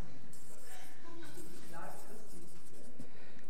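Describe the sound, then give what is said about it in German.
Soft scratching of a weakening pen moving across paper in short strokes as words are written down, with faint voice sounds murmuring in the background. “Da muss ich mal einen anderen Stift nehmen, der schwächelt schon.”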